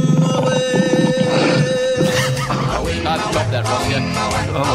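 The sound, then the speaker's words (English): A sharp whip crack snaps out midway through a loud, busy musical intro to a radio segment, surrounded by growling, roaring animal sounds and steady backing music. “Oh, little whip away as well.”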